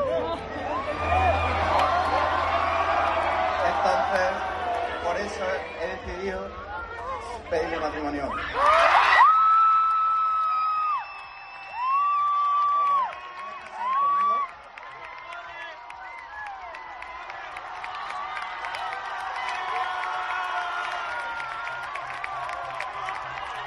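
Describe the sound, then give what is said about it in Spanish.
A crowd at World Youth Day applauds and cheers after a woman accepts a marriage proposal on stage, in a dense, steady wash of noise that peaks in a loud burst, then settles into scattered whoops and rising cheers over a softer crowd murmur. “dijo que sí, afortunadamente, y ya han oído esos aplausos.”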